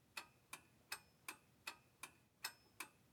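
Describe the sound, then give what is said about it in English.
A mechanical clock in an office ticks steadily, about two crisp clicks per second, clear against quiet surroundings with no voices. “She had been in his office before. She had never noticed the clock.”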